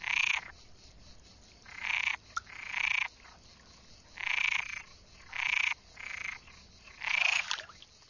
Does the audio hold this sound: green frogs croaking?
yes